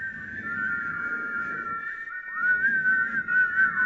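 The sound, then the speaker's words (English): Many people in a small building whistle together over a person, in a sustained, wavering chorus of overlapping high notes, with a low murmur of crowd noise underneath and a brief dip before the group swells back louder. “If this is your very first time here today, I'm whistling over your life.”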